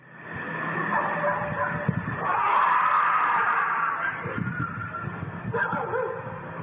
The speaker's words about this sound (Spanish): en otra capa el sonido de unos perros que están por allí